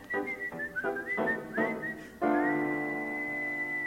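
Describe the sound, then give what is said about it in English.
Someone whistles a short tune: a run of quick, bouncing notes that rises into one long, steady held note at the end, clear, with a soft tonal backing underneath. “We whistle and we hum, beat time with the drum.”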